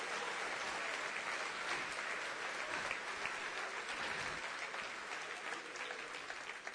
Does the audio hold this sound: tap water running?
no